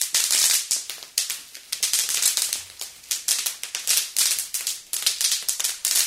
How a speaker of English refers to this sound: My family celebrates 4th of July. My family and I go to my auntie's house in Tacoma. We watch fireworks, then we do our own fireworks.